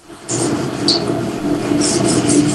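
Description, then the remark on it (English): A train rumbles past, a loud, steady low roar with a droning hum, topped by bursts of high hissing and screeching from the wheels. No one speaks. “I know, the train startled me there.”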